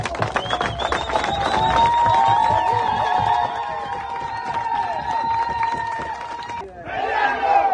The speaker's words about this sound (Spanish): Los ciudadanos gritaban consignas contra la minera y pedían la salida del país de la empresa en un ambiente de tensión.